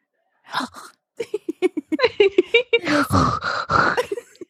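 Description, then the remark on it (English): A voice imitates a woman's gasping last breaths: a rapid run of short, strained vocal gasps, then longer raspy, breathy wheezes, fairly loud. “Between her gasping last breaths.”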